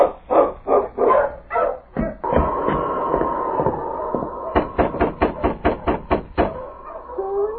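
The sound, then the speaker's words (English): Several sled dogs of a dog team bark excitedly in loud bursts as Sergeant Preston drives up with his team, with a drawn-out howling whine in the middle, then a quick, steady run of barks before the noise trails off. “Shortly after Jim Higgins left his cabin with food for the prisoners, Sergeant Preston drove up with his dog team.”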